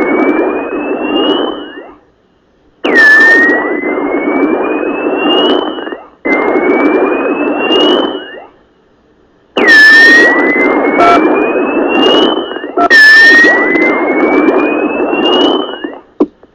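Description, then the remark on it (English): Mating whale calls: five loud, harsh bursts, each carrying a thin tone that swoops up and slowly rises, separated by short silences. No one speaks. “Sit back and enjoy the sounds of mating whales.”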